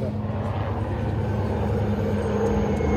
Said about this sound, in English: Big choppers coming.